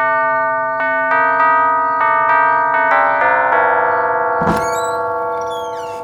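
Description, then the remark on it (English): A doorbell rings out a short melodic tune of about eight bright, sustained chime notes, then a dull thump and a few quick chirping sounds follow as the tones fade. “Shall I ring the bell?”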